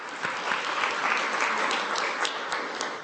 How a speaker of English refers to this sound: One more round of applause for the kids.